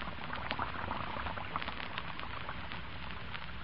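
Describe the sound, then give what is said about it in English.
Lux soap flakes in a dishpan melt into frothy suds as water runs in: a steady crackle of countless tiny bubbles popping, with a soft, even hiss and no voices. “And almost at once, the flakes melt into a soft, frothy mass of bubbles. Listen to them.”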